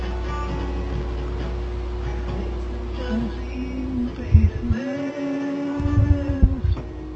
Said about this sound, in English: is that you with the air conditioner going full blast? It's not going full blast. It is on in the background, but it's very low.